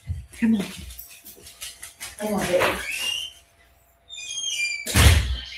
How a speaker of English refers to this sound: Can you all hear my puppy? He's crying because he needs to go outside. One moment.